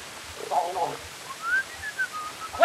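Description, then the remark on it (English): A boy whistles softly, a thin wavering tune of sliding notes that drifts up and down for a couple of seconds against faint background noise. “Quit that whistling.”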